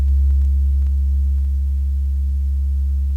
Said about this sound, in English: It's a very low, rumbling tone, like this. Can you hear it? Like a foghorn, almost. You almost have to feel it.